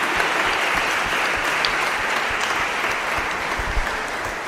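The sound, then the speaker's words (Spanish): A church audience breaks into sustained applause for three people about to be baptized, a dense, steady wash of many hands clapping at constant loudness for several seconds, with no voices standing out. “Hoy vamos a bautizar a otros tres hermanos que también merecen un aplauso, ¿eh?”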